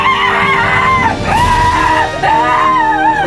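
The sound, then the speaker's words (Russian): A policewoman, writhing in a toilet, screams in distant, long, wavering, high-pitched cries, sustained for a few seconds with a brief catch in between, loud and anguished, with no talking. “Раздается отдаленный крик милиционерши.”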